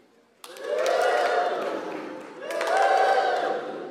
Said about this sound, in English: So when I have my hands up, you give it a big whoop, whoop. Yeah, you clap, clap, clap, clap.